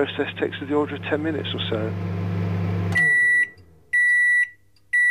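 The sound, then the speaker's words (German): A kitchen microwave oven hums steadily with a low drone while a voice talks over it, then the hum stops and the oven gives two loud, sustained electronic beeps. The microwave is being used to dry material, producing a nanopowder. “Wir fanden heraus, dass sich zum Trocknen auch eine Mikrowelle aus der Küche nutzen lässt.”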